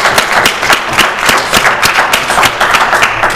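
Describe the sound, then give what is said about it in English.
An audience applauds two speakers steadily, with dense overlapping claps forming a loud, continuous wash of sound that holds throughout without any talking. “Let's give them both a round of applause.”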